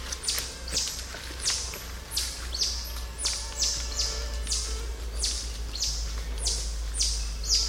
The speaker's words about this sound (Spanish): Nunca me imaginé que los monos en general podían sonar de esta manera. En la cultura popular los escuchamos con sonidos graves o aullidos estruendosos. Pero no, si los titíes suenan casi como pajaritos desde la distancia,